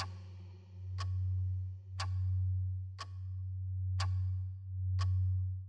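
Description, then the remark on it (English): A metronome ticks steadily, five crisp clicks evenly spaced about a second apart, over a constant low droning hum with no voices. “Less of your own thoughts. More of the metronome's ticking.”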